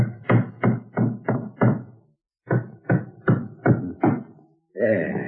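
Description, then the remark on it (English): Hammer blows driving nails into a wooden floorboard being put back in place: two sets of five sharp, evenly spaced knocks with a short pause between, then a voice begins speaking at the end. “All right, I'll put the floorboard back in place now. Hammer these nails in, and that'll be sound again.”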